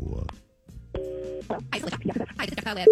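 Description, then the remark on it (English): A short steady telephone tone is followed by voices talking over a busy mix of sounds, and a single flat electronic beep ends the call-dialing sequence, as a phone call is placed for the War of the Roses segment. “Let's make the phone call and give her the ploy and see what she falls for.”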